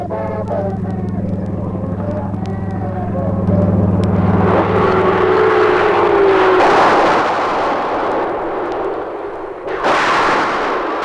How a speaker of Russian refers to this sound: И каждый раз этот рев самолетов отдается и в наших сердцах.